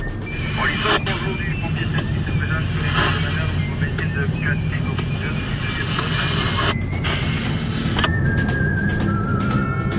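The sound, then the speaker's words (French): A loud, steady jet engine roar with a high whining tone fills the scene, a plane powering up to take off on a runway, while voices can be heard over it. “Comme les avions vont partir là, j'aimerais pas qu'ils traversent la piste au même moment que l'avion décolle.”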